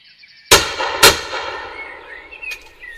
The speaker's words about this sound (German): Getroffen. Die Wucht der Kugel schleudert das Tier ins Gras. Es war ein weitgerechter Schuss, auf den der Jäger stolz sein kann. Doch was er nicht ahnt, er hat die letzte freilebende Wildkatze im Spessart erlegt.